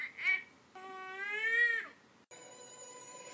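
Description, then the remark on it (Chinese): A baby granddaughter cries at home at the start of the day in tonal wails: a short yelp, then a long sustained cry that swells and breaks off, followed by another steady wail, with no talking. “一天的生活又从我们家小外孙女儿的哭声中开始了。”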